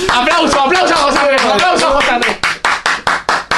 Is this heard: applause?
yes